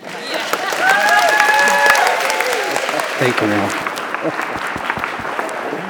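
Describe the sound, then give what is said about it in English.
An audience claps after a prayer in a dense, steady wash of applause that holds loud throughout, with a few whistles near the start and a voice speaking briefly over the clapping. “This would be a good time to clap.”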